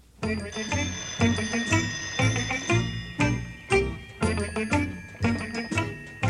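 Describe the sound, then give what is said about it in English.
An old-fashioned telephone on an electrical pole rings insistently in a series of bright, metallic bursts separated by short pauses, loud, with no voices. “the other pole is ringing.”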